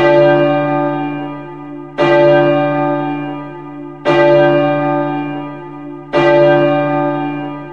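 A deep, muffled clock bell strikes midnight, tolling four times at slow, even intervals, each stroke ringing out and decaying into a long, humming resonance before the next. No voices are present.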